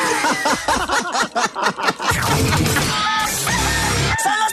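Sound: rooster crowing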